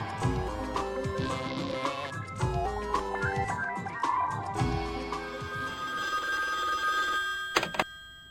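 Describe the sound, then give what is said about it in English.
An office telephone rings steadily over several seconds, its bright trilling bell loud amid a dense tonal backdrop with low rhythmic thumps, ending with a sharp click. “You knew it was me calling. That must mean you finally found it in the budget to get caller ID for the office phones.”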